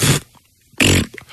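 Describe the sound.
Two short, buzzy raspberry bursts blown with the mouth, a voice imitating a fart. They are loud, separated by a brief pause, with no talking.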